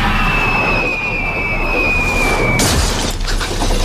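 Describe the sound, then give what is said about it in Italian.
A stage spotlight falls from the sky: a high whistling tone slides slowly downward, then ends in a loud, sudden crash with shattering debris, followed by a brief scattering rumble. “Quando incominciano ad accadere strani avvenimenti come la caduta dal cielo di un faro di proiezione dovuto al fatto che con il passare del tempo il set si sta deteriorando,”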